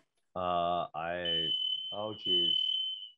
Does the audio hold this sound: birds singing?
no